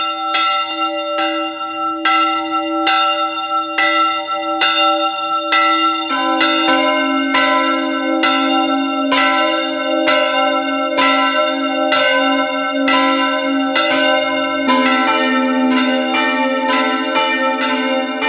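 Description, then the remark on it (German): The bells of the Maria Heimsuchung parish church in Kogelhof, on a hillside in the upper Feistritz valley in eastern Styria, Austria, ring at 12 noon, steadily and loudly with a regular rhythm of strikes, their overlapping tones sustaining and blending, with a deeper bell joining partway through and no voices. “Es ist 12 Uhr. Sie hören die Glocken der Pfarrkirche Maria Heimsuchung in Kogelhof in der Oststeiermark.”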